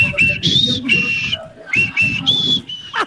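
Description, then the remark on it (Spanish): A person whistles a short signal tune, a string of clear, high, slightly wavering notes in quick bursts, heard over a low rumble of background voices and noise. “es el silbido del clandestino”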